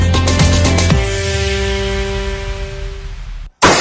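A loud crash of breaking glass, with a few sharp impacts followed by a bright ringing resonance that slowly fades over several seconds, then a brief silence before more noise.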